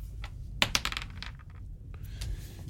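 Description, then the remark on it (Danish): Dice rolled for an athletics check to kick open a door, coming up 16, tumble across a hard surface: two sharp clacks followed by a scatter of softer ticks and rattles as they settle, over a low, steady background rumble. “Så slår jeg 16.”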